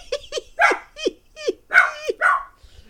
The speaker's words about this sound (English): Timing. It's pretty good. This dog's got perfect comedic timing.